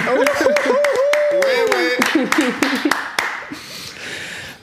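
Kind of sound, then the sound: crowd, hand clapping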